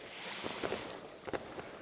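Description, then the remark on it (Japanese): Steady wash of waves at a sandy seaside beach where fireworks are being watched, with a windy hiss, broken by a few soft, brief bursts that rise out of the constant surf. No voices are heard. “海辺で花火を見るなんて。”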